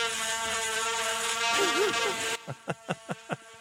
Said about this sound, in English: didn't you want to have the buzzer again one more time?